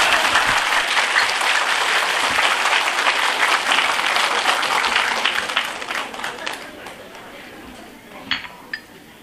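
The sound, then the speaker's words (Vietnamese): A crowd applauds a group of men referred to as HO, with dense, steady clapping that holds strong for several seconds, then thins out and fades, leaving a few scattered claps at the end. “Quý vị cho mấy ông tràng pháo tay.”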